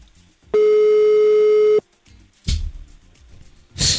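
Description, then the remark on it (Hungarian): A single steady electronic ringback tone of a phone call, loud, lasting just over a second, followed by a quiet pause and some brief rustling and clattering noises. “úgy megdicsértelek, hogy elsőre kicsöngős.”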